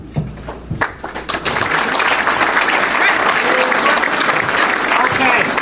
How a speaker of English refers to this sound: Let's give them both a great round of applause. Thank you very much.